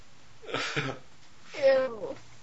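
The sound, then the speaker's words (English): A short breathy, hissing burst, then one drawn-out cat meow that rises and falls in pitch, fairly loud against a quiet background. “Okay, I guess now the kitty is fully grossed out.”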